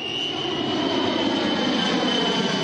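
airplane engine flying overhead

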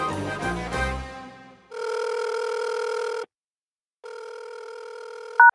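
telephone call ringing

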